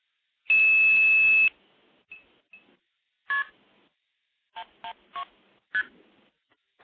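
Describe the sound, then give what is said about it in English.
The telephone code 112, for the Evan Dorbell classic tandem stacking tape, is dialed: one loud, steady tone lasting about a second, then a string of short, sharp dialing tone bursts in an uneven rhythm, with no voices. “So I will dial that.”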